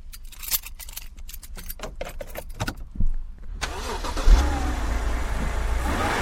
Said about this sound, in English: That's the sound of my car starting up, the jingling of the keys, pushing a button, sending a spark to the engine, setting off controlled explosions of gasoline, and then that low rumble of an internal combustion engine in idle.